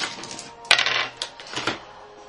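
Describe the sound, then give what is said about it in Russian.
Dice clatter across a tabletop as a player rolls for double damage: a sharp initial knock followed by a few quick rattling bounces and clicks as they tumble and settle, with no voices. “Какой у тебя хороший кубик. Ну, я думаю, хороший. Так, кидаю двойной урон.”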